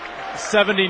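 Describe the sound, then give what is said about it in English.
A gym crowd at DeWitt Gymnasium erupts into loud cheering after Dalton Franken's baseline jump shot for Dordt College against Briarcliff in a basketball game, a dense roar of yelling voices that swells sharply halfway through the brief moment and stays loud. “And you cannot hear yourself think as the crowd erupts.”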